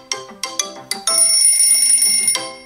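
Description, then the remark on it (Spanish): A telephone rings with a bright, electronic bell tone: three quick chirps followed by a longer sustained ring, loud, with no one speaking. “¿Te suena el teléfono”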